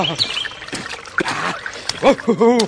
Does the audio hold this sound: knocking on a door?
no